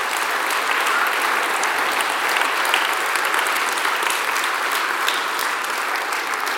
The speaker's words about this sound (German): Steht ihr mal auf, das Kivo-Team? Ja, genau. Also, euer Einsatz war schon sensationell gewesen. Merci vielmals. Die haben auch einen grossen Applaus verdient.